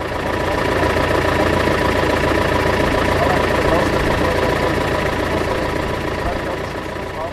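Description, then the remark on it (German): A tractor engine pulling a trailer runs steadily and loudly as it drives downhill from Bernsroth to a hemp field, a continuous rumbling drone with a rhythmic knocking texture that holds at constant level throughout. “So, wir sitzen im Traktor und fahren mit dem Hänger nach unten zum Hanffeld.”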